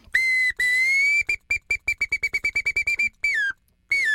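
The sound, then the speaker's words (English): A bamboo bird whistle mimics a song sparrow, demonstrating variations in the song of a single song sparrow: a held note, a quick run of short chirps, a drawn-out note sliding downward, then one more note after a pause. Clear, no voices. “In this show, we use a bamboo bird whistle to demonstrate variations in the song of a single song sparrow.”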